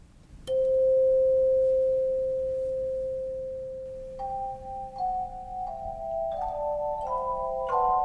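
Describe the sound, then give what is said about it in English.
Choir chimes ring out: one mellow, pure note struck and held for several seconds, then a string of higher notes struck one after another, overlapping into a soft, sustained cluster. “One of our other instruments that we love to use is called the choir chimes.”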